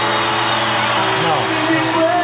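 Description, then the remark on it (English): A concert crowd yells and cheers loudly and continuously for a reunion on stage of the day's performers, a dense wash of many voices with occasional higher whoops rising above the roar. “These are the people that have performed all day, and that's what you're hearing the crowd yell about.”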